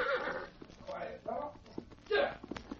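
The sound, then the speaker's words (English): A horse whinnies in several shrill, wavering bursts, with scattered clopping hoofbeats and sharp knocks between and after the neighs. “Now him go to corral for horse.”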